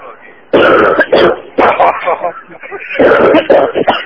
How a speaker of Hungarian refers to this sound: menni a körzeti orvoshoz, ez nagyon csúnya köhögés, hogyám.